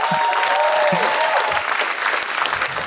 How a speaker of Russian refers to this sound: На этой сцене известный также как попрыгунчик Руслан Мухаметов. Под ваши аплодисменты!